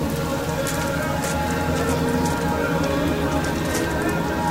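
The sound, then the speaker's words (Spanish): Steady rain pours down in a dense, continuous hiss among the mountains of the Sierra Oaxaqueña at Huautla de Jiménez, Oaxaca, in July 2004, with scattered drops pattering on surfaces and no voices, holding an even, moderate loudness throughout. “Ni la lluvia detuvo mi camino entre los grandes cerros que forman la Sierra Oaxaqueña.”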